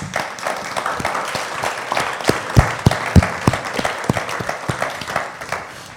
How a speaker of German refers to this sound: Und ich denke, das ist doch wirklich ein Applaus wert, oder?